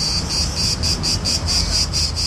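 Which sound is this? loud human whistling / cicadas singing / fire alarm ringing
cicadas singing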